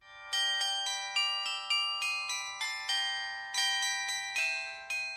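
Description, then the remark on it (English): The bells of St. Johann's Church in Davos, Switzerland ring in a steady, rapid peal, each loud clang overlapping the last with bright, shimmering overtones that hang in the air. No voices are heard. “Those are the bells of St. Johann's Church in Davos, Switzerland, about which there is this story to tell you.”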